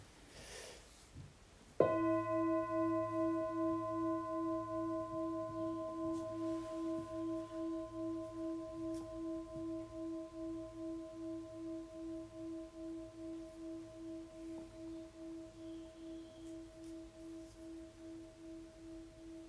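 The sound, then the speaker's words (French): A gong is struck once, then rings with a steady, mellow tone whose loudness pulses in a slow wobble as it gradually fades over many seconds, with no voices. “Par exemple, tu peux sonner le gong.”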